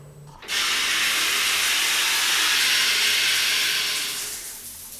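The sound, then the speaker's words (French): A shower after a training session bursts on after a brief quiet moment, its steady, dense hiss of spraying water holding for several seconds before slowly tapering off. No voices are heard. “Entraînement terminé, à la douche.”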